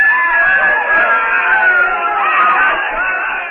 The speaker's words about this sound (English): Jane's screams carry to Tarzan at the chief's hut.